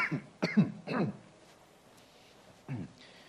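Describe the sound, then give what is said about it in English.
A man coughs three times in quick succession, fairly loud, followed by a brief pause and one more rough, throaty cough, coughing out allergy buildup from his lungs. “Occasionally, allergies fill up a bit in my lungs and have to cough it out there.”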